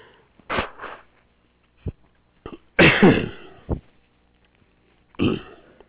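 A harsh coughing fit from a dry throat tickle: several dry, hacking bursts in irregular clusters with short gaps, one long rasping spasm in the middle, ending with a final forceful cough. No talking.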